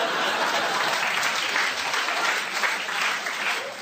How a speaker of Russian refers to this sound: Девушки аплодируют, я вижу.